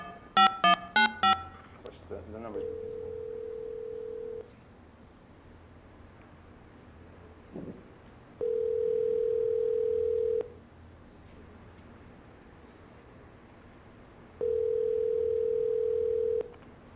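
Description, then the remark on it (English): A quick burst of telephone keypad beeps as a number is dialed late at night, then a steady electronic phone tone that sounds for about two seconds and repeats three times with long silent gaps between. “Not getting a dial tone.”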